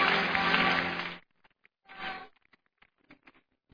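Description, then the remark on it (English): A crowd bursts into applause for about a second, dies away, swells briefly again, then trails off into a few scattered individual claps. “Clap your hands and take your seat.”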